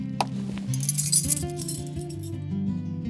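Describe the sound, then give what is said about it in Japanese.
Light metallic clinking and jingling of a bunch of house keys being handled, rising to a brief cluster of bright chimes mid-clip over a steady low tonal background. “こちらがこの家の鍵束です。”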